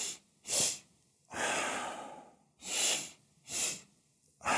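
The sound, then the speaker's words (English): Loud breathing with no talking, a physiological sigh breathing exercise done to reduce stress: a quick sharp breath, then a long, drawn-out airy breath, followed by two more short, forceful breaths through the nose. “Now, to do it, all you need to do is inhale twice through the nose, one long inhale followed by a quick, shorter one, and then exhale deeply through the mouth.”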